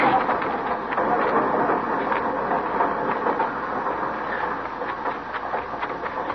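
A train rumbles steadily, with a dense mechanical roar broken by irregular clanks and hissing bursts, as if it is pulling away. No voices are heard.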